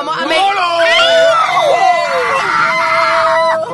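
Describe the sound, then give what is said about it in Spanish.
A person in a car lets out a loud, sustained scream of fright at an unlit intersection, fearing a crash, the pitch wavering and sliding for several seconds before cutting off abruptly, intense. “Perdón por gritarte.”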